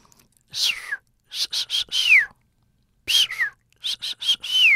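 The signature whistle of a dolphin named Peter: high, breathy whistles sweeping downward in pitch, repeated in two bursts of short chirps and longer glides separated by a brief silence, with no talking.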